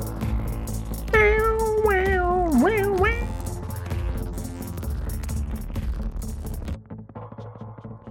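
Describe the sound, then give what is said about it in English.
A cat meows three or four times in quick succession, the drawn-out, wavering cries clear over a steady low background rumble that continues after the meowing stops. “I hear a cat.”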